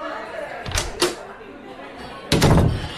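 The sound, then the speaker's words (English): A door opens with two quick clunks, then swings shut with a louder, fuller thud a moment later, over a low background murmur. “An expert on this topic just walked through the door.”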